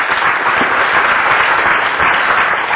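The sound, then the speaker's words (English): An audience gives Jesus a clap offering: sustained applause, a dense, steady wash of many hands at an even loudness for the whole stretch, with no voices rising above it. “Give Jesus a clap offering as a go back.”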